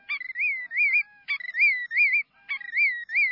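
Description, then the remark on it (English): A prairie grassland bird in early summer, among songs such as those of Macoun's longspur, lark bunting and willet, sings three repeated phrases, each opening with a quick stutter of short notes that runs into sweet, wavering whistles. The song is clear and fairly loud, with no voices. “Songs such as those of Macoun's longspur, lark bunting, and the willet.”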